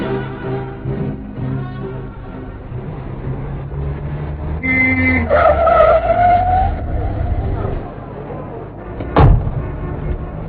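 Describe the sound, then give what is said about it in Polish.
A car engine rumbles along, then tires squeal briefly as it brakes to a stop, followed by a single sharp thud a few seconds later. “Wszystkiego dowiesz się w samochodzie, jeżeli korki na 5 alei pozwolą nam dojechać w ciągu godziny.”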